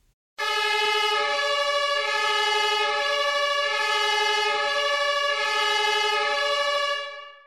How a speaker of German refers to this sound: Und sobald du dich angegurtet hast, fährt der Sam zusammen mit dir los. Und mit dem Losfahren schaltet der Sam auch seine Sirene ein.